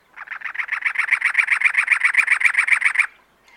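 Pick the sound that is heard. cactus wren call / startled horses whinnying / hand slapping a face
cactus wren call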